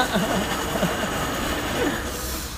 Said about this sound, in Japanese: あら ただいま台車が通っております。台車が通る、夢の国、読売ランドの台車が通っておりますね